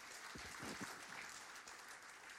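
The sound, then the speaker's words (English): A church audience claps together in a steady, dense burst of applause that fills the space, with a few faint voices rising briefly underneath before it carries on evenly. “Let's give the Lord a big clap, church.”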